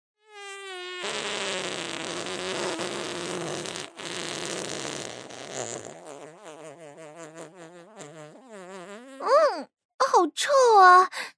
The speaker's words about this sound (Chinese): 老板，要开始放屁了啊。友情提示一下，我放的屁可能有一点点臭哦。